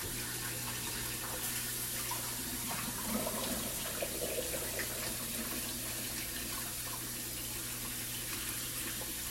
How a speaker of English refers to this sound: And that means that we can also take out the ramen noodles. So let me pour those out as well.